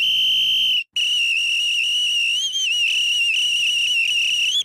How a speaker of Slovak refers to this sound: Generál si vopchal predné nohy medzi kusadlá a zapískal.